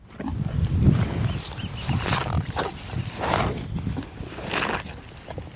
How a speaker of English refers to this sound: The cows. At any given time, there's several thousand of them roaming the pastures across Point Reyes. They're here to supply the 24 beef and dairy ranches that operate in the national park